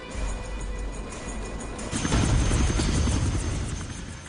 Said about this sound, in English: You do an amazing amount of helicopter work on this show. Yeah. But we have two fantastic pilots.